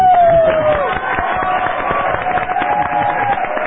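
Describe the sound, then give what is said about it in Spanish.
A crowd claps and cheers steadily and loudly, the applause thick and continuous, with a high whistle-like tone sliding down at the start and a murmur of voices mixed in. “Así me gusta, aplaudidores.”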